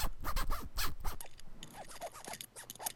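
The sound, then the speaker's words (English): The zipper of a Starman jacket is zipped, a quick run of raspy, ratcheting clicks that starts loud and trails into lighter, scratchy ticks over a few seconds. No one speaks. “Oh, let us say, I don't have a zipper on these pants, but I sure do on my PK, no, my Starman jacket.”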